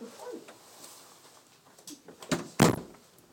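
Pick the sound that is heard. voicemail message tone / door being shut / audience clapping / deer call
door being shut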